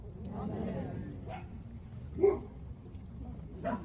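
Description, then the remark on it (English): A group of dogs barks in scattered, overlapping bursts just after a prayer at a gathering where dogs were welcome, a few louder yelps standing out over a steady low murmur of indistinct voices. “I had to let that play because after the prayer got done, all of a sudden, all the dogs, because dogs were welcome.”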